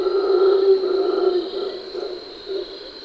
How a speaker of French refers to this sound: Derrière le cri du singe hurleur se cache la voix de